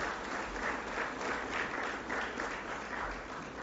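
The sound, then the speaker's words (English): An audience applauds a man for his character as he goes back to his seat, a dense wash of many hands clapping at an even, sustained level with soft rhythmic swells, no voices standing out. “So let's give him a hand.”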